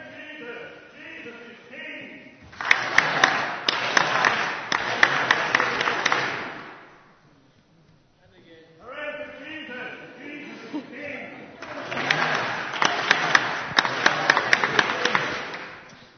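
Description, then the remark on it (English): A crowd of hundreds, maybe thousands, claps, dances and shouts its way through the city gates as Jesus arrives, in two loud, dense bursts lasting several seconds each, sharp hand claps popping through the roar, each burst preceded by quieter group voices and separated by a brief lull. “There were hundreds, maybe thousands, clapping and dancing, shouting their way through the city gates.”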